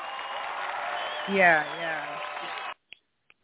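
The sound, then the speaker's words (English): A canned applause sound effect, played by the host at an open mic night, fills the first few seconds, with a rising, then falling cheer or whoop in the middle. It cuts off abruptly, followed by two faint clicks. “Let me throw some more bells. Put some applause on that.”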